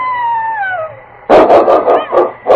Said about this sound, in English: That was a wolf, and King's going to meet it.